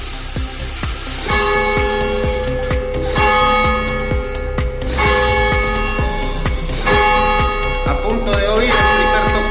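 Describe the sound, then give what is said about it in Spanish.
Loud church bells of a historic clock tower and belfry ring out at noon on the Paseo del Espolón in Logroño in a dense, overlapping peal, with strong sustained tones and a steady rhythm of strikes continuing throughout, with a faint outdoor hiss beneath. “Está situada la sirena en el número 1 de la calle Muro de la Mata, que alberga ese histórico conjunto de reloj, campanario y sirena que cada mañana al mediodía pues suena en el paseo del Espolón de esta manera.”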